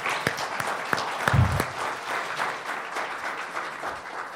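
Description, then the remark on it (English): A crowd applauds the volunteers who held a Valentine's Day event, a dense patter of many hands clapping at an even level, with a few sharper individual claps standing out near the start. “Let's give them a round of applause, because that was nice.”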